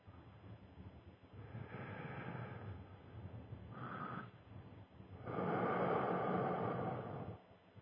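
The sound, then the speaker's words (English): Slow, deep breaths drawn in and pushed out as a breathing exercise, a long airy inhale, a brief pause, then a fuller, louder exhale rushing out, with no talking. “Breathe it straight through your body. Breathe it out.”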